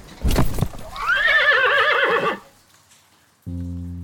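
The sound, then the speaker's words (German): A horse pulling a carriage on a street in heavy rain lets out one loud, wavering whinny lasting over a second, right after a short sharp noise. After a brief quiet gap, a steady low droning tone begins. “Er eilt bei dichtem Regen über eine Straße und bemerkt den Pferdewagen nicht, der auf ihn zurollt.”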